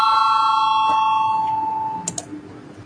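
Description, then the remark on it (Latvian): A sustained electronic voting bell tone rings steadily in a parliament before a vote, then fades out, followed by a couple of faint clicks. “Lūdzu zvanu, balsosim par 23.”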